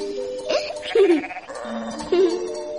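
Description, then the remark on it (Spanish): Sheep bleat twice in wavering, quavering calls, fairly loud, with a soft background hum between the bleats. “Criaban vacas y ovejas para venderlas en la ciudad.”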